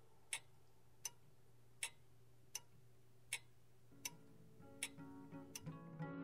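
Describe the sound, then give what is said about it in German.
A clock ticks steadily, about eight sharp, evenly spaced ticks over a low background hum, while a soft tonal, musical sound swells up underneath toward the end. “In Hotelzimmern, in denen Uhren hängen, die ticken”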